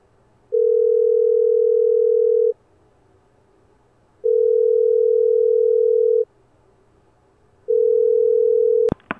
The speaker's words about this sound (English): She tries one last time, hoping against all odds that maybe this will be the time. Maybe, just maybe, he won't leave her behind for good. Maybe she'll get to hear his voice for real, just one last time. She prays as the phone rings.